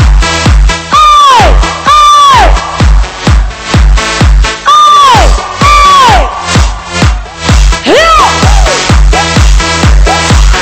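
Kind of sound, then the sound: crowd, crowd cheering and applauding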